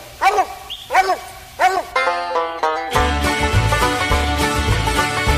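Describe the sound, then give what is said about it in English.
Three loud, drawn-out baying barks from a coon hunting dog ring out in a steady rhythm, then music begins and carries on after the dog falls silent. “Man, just listen, what a jaw on a dog.”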